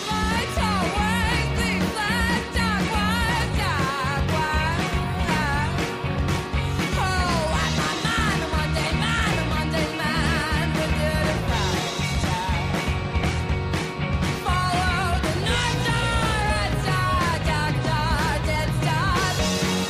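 A loud, dense smoky dive-bar rock song, a vaudevillian dance tune, with driving drums and guitars under a powerful lead vocal that swings between harsh screams and smoother, velvety jazz-style singing, playing continuously throughout.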